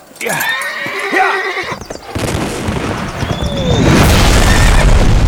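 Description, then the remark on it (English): A horse gives a loud, shaky whinny, then a dense rush of hoofbeats and rumbling noise takes over and grows louder as the animal moves off. “so as soon as he had made his shot, he was off and running for horse.”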